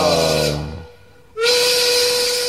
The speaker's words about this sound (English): No, when the whistle goes, the whistle goes. And that means your boys go. Means you've got to get out of here, mate.